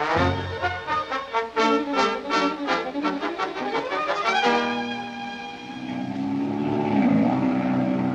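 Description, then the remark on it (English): A propeller airplane engine drones loudly, pulsing rhythmically at first before settling into a steady roar that dips and swells in pitch near the end. No one speaks. “Say, have you ever been up in a plane?”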